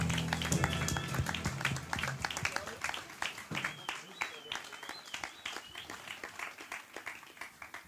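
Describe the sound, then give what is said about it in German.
An audience applauds for several seconds, a dense patter of many hands clapping that gradually thins out. A low murmur of voices sits under the start. “unser Spielgott. Applaus.”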